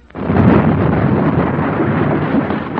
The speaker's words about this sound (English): For suddenly, an explosion shook the waterfront.